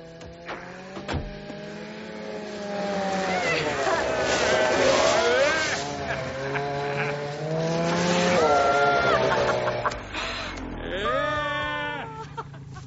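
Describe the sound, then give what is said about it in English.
A snowmobile engine drones loudly for about twelve seconds in a neighborhood, its buzzing whine repeatedly rising and dipping in pitch as it revs, swelling twice before trailing off with a final high rev. “This neighborhood will be a lot safer without that snowmobile around.”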